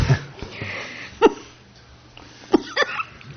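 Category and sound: human body sound, coughing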